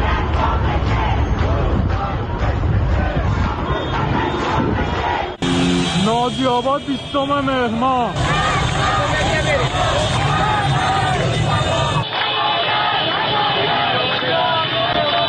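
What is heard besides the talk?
street protest crowd shouting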